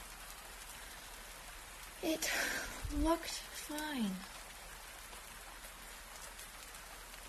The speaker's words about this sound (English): Drip, drip, drip, drip, drip, drip, drip, drips. I'll just pretend I don't hear them.